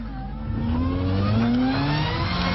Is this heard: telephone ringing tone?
no